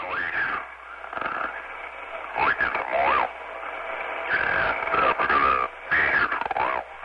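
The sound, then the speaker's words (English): A garbled radio call from Captain Joseph Hazelwood on the tanker Exxon Valdez, just after midnight on March 24, 1989, comes through thick static, a distorted voice breaking in and out in short bursts over a steady band-limited hiss. “Just after midnight on March 24, 1989, a garbled radio call full of static from Captain Joseph Hazelwood on the tanker Exxon Valdez signaled one of the worst oil spills in history.”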